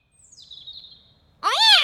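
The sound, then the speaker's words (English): A cat named Clarence gives one loud meow near the end, rising then falling in pitch, after a faint high whistling tone that drifts downward. “Oh, naughty cat.”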